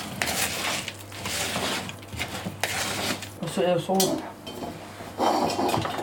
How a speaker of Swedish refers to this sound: Ungefär en teskål till kanske salt. Mm. Så rör jag runt dem. De här torra ingredienserna.